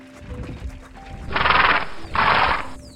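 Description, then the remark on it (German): A farmer's horse-drawn wagon rolls past with low rumbling and clopping hooves, while the horse lets out two loud, rough neighs in quick succession, each lasting about half a second. “Die Wanderer standen still und fragten einen Bauer, der da mit seinem Wagen vorbeifuhr, was das für ein Licht sei.”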